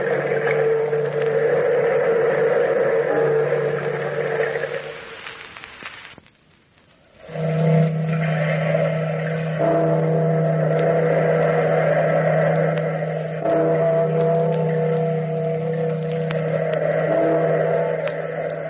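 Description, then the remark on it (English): A steady wash of surging ocean waves runs under a deep, sustained ringing bell tone, the opening of The Weird Circle radio show. The sound fades briefly to near silence partway through, then the waves and bell swell back in. “Listen to the wave. Listen to the bell.”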